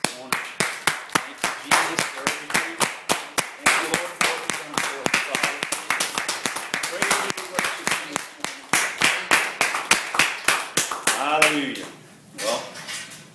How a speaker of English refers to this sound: Can we just give the Lord a hand clap of praise?